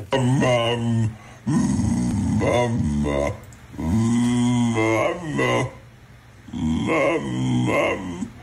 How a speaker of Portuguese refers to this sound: Nós queremos que nos digas o que é que este cão está a dizer.